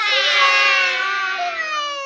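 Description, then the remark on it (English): A baby cries in one long, loud, high-pitched wail that holds steady and then sags slightly in pitch toward the end, with no talking over it. “The babies cried.”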